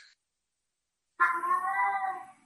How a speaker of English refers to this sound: a cat made an appearance in the middle of a pretty dense discussion